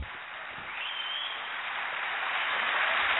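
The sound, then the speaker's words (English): A studio audience at a live show on location breaks into steady applause for an arriving guest, a dense wash of clapping that swells slightly and holds at a strong, even level for the whole stretch, with no voices over it. “That's quite an applause.”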